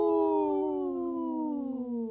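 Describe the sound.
A single drawn-out howl from someone in the background during a radio show, steady, slowly sliding lower in pitch over about two seconds, with no talking around it.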